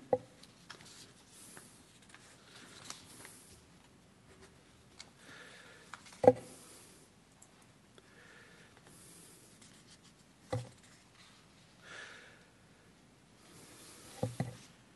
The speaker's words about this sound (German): Ja, ich möchte dann, jetzt muss ich hier ein bisschen blättern, langsam zum Schluss kommen.